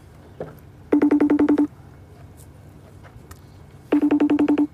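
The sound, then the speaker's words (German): A FaceTime video call ringing tone sounds twice: each ring is a rapid, evenly pulsed burst of bright electronic beeps lasting under a second, separated by a few seconds of quiet room noise. “Telefoniert ihr oft per FaceTime?”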